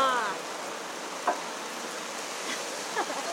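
rain falling outside

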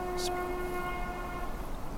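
train passing nearby

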